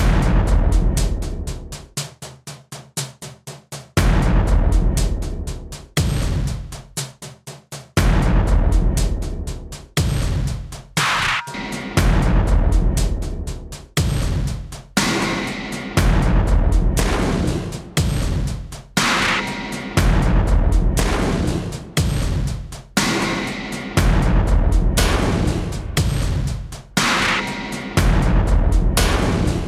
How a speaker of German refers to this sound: Eine Kick noch dazu.